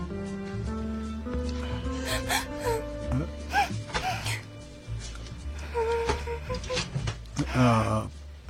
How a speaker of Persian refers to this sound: گریه نکن. چرا گریه میکنی؟